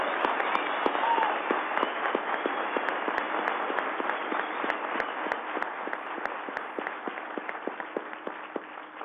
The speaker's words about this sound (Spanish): Pero hay que darles un aplauso duro para que se sientan comprometidos. Un aplauso duro.